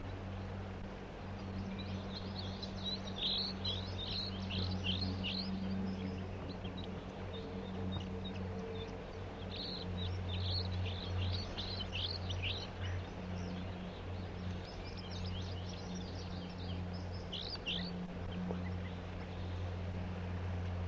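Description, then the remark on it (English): A flock of three crossbills, at least one a juvenile, giving typical flight songs: quick bursts of high, chirpy notes come in three loose clusters over a steady low engine-like hum, with no talking. “And the other two birds are singing as well here, giving the typical flight song.”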